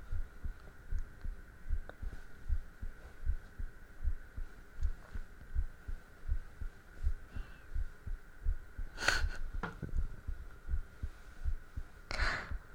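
A fast, steady heartbeat sound effect thumps low, about two beats a second, over a faint constant hum, with a couple of brief brighter bursts near the end. No one speaks.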